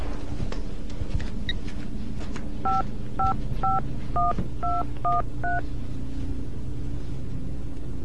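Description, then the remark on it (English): A quick run of seven touch-tone phone keypad beeps, evenly spaced and clear, dialing the number of the telephone company over a low steady background hum. “May we use your phone to call the phone company?”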